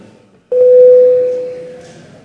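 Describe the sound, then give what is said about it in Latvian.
After a brief quiet moment, a loud, steady electronic parliament voting bell sounds as one sustained tone, holding evenly and slowly fading toward the end, with faint room noise beneath, calling deputies to vote on a proposal by justice minister Dzintars Rasnačs. “Deputāti, lūdzu balsojumu, lūdzu zvanu.”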